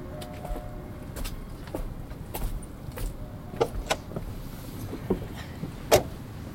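Inside a car with a retro body and a very recent engine, a steady low engine rumble runs beneath a series of short clicks and mechanical clunks, with a brief whirring burst near the end like a power window moving.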